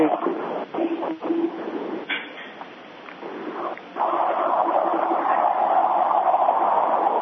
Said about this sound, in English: How do you mute? Because this train is very loud.